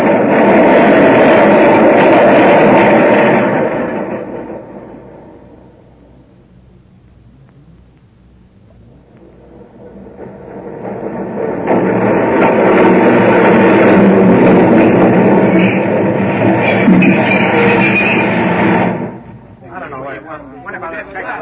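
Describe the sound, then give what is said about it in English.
A subway train roars along the rails past 33rd Street on to Times Square, its loud rumble dipping away for a few seconds midway, then surging back in full before dropping off sharply near the end. “McCoy didn't move, and the train went on to Times Square.”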